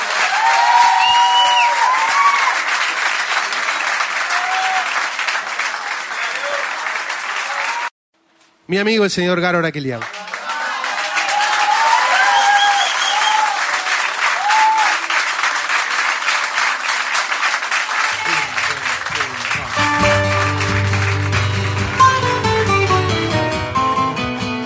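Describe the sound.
A crowd applauds loudly and steadily, cut by a brief silence, while a man speaks over the clapping; music begins underneath toward the end as the applause carries on.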